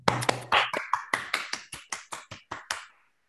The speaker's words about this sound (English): So let's all unmute to give him a round of applause for his great talk.